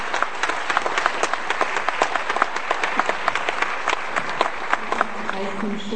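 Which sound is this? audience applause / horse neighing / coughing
audience applause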